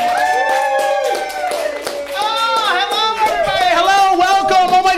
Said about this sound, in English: Good evening, Comedy House New Orleans. Welcome to this very special taping of the So What Do You Really Do podcast. Without any further ado, please give yourselves a round of applause for your host,